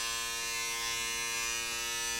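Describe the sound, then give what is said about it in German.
A hornet's wings buzz steadily, droning evenly for about two seconds with a rich, harmonic hum and no pauses or voices. “Mit den Flügeln Musik machen, das kann ich auch.”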